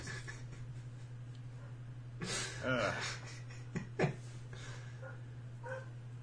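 A dog at play gives a couple of short, high whimpers and whines, one rising into a brief sharp yelp, over a steady low electrical hum.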